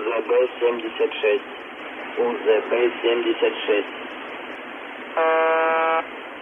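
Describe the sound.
A thin, band-limited voice talks briefly, then after a pause a single steady shortwave buzzer tone drones for under a second, harsh and evenly pitched over a faint static hiss.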